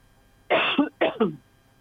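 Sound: coughing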